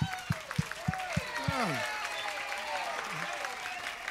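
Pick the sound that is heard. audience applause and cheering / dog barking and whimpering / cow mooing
audience applause and cheering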